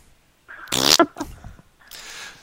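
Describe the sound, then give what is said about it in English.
A toy pooping-noise sound effect maker, called the ZZ, lets out a loud, wet pooping sound: a buzzy, rasping blurt, a few squelchy sputters, then a softer hissing splutter trailing off. No one talks. “Where it comes out, it goes, as I use my pooping noise sound effect maker.”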